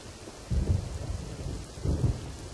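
Steady rain hisses evenly throughout, with two deep rumbles of thunder rolling underneath, one early and one near the end. No voices.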